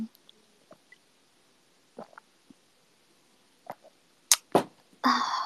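Several short, sharp hiccups pop out at irregular intervals, faint at first and then louder, before a brief rush of breathy noise closes things out. No one talks.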